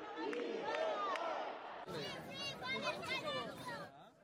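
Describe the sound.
A large crowd of Catalan spectators at a football match between Palestine and Catalonia in Barcelona roars and shouts together in a sustained, dense wall of voices, with rising and falling chant-like cries of support for Palestine swelling over the steady hubbub throughout.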